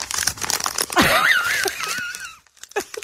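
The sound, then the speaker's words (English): Loud crinkling and crackling of paper being crumpled up, with a high, wavering squeaky tone sliding over the noise midway before it briefly drops off and a few last rustles follow. “I crumpled up the.”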